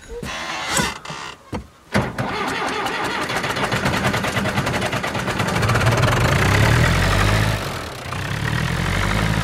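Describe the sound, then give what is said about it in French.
A farm tractor engine cranks with a few sharp clunks, then settles into a steady idle with a rhythmic diesel chug that deepens and rumbles louder toward the end; the tractor is being fetched to hitch a rear fork for feeding a cow. “Je vais chercher un tracteur pour atteler la fourche arrière, pour pouvoir donner à ma vache.”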